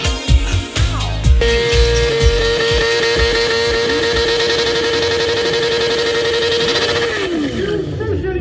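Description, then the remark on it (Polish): Loud stunt motorcycle engines roar continuously, with bursts of revving at the start and a sustained high engine whine that drops away near the end. “No właśnie, to był ten wspomniany ryk silników, o którym mówiłem wcześniej, że się pojawi”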